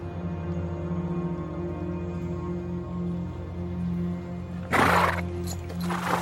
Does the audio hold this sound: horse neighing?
yes